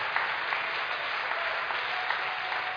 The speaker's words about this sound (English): Come on, let's clap our hands and praise him again. Oh, thank you, Jesus. Praise God.